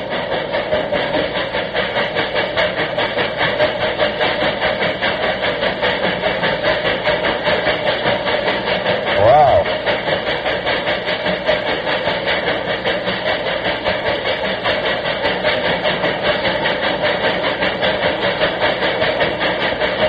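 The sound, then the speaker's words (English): A locomotive engine rumbles steadily through a tunnel, a dense, continuous roar with a rhythmic clatter running underneath and a brief louder swell near the middle. No voices. “this is the General going through a tunnel. Listen to it. Wow. What a great sound. It sounds like a real big engine”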